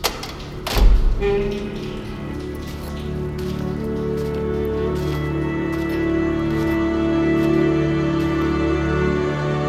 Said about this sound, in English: A green light. The reader blends back in with the metal of the wall. There's a hiss of repressurization, a cold gust. The door opens.